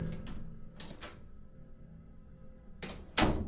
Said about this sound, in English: As usual, I was on my phone while using the bathroom, and the bathroom door opens.